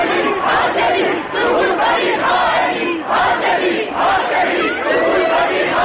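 crowd shouting in unison

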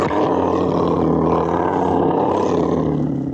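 lion roaring

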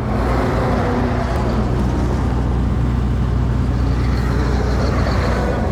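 car engine running

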